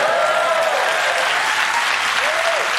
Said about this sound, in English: Yeah, you can clap for that, yes.